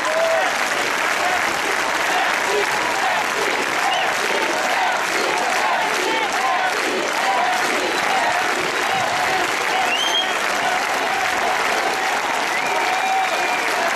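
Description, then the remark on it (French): A large crowd applauds police officers and law enforcement in November 2015, without pause, a dense wash of clapping that stays loud and steady for the whole stretch, with no clear voices rising above it. “Novembre 2015, comme après l'attentat contre les dessinateurs de Charlie Hebdo, la foule applaudissait les policiers, les forces de l'ordre en général.”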